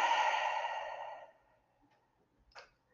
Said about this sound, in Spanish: Inhala por la nariz y exhala por la boca.